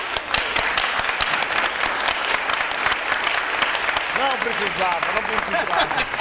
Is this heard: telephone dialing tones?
no